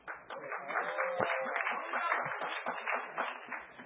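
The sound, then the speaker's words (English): An audience claps in a dense, steady burst of applause that holds for about four seconds at a fairly even loudness, a busy patter of many hands with no pauses, as the Wi-Fi starts working again during a presentation about hackerspaces.org. “Yeah, clap. We have internet again.”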